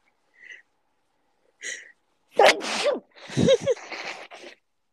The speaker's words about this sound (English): Sorry, I'm gonna sneeze.